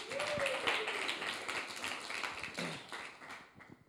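An audience breaks into a round of applause, a dense, steady patter of many hands clapping at once that holds for several seconds before beginning to thin out near the end.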